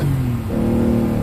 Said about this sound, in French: Oh, la moto, elle a pris sa moto, je sais pas ce qui s'est passé.